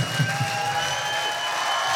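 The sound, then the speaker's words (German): An audience applauds in a dense, steady wash of clapping that holds evenly for about two seconds, with faint sustained tones ringing underneath and no voices. “Dein Applaus.”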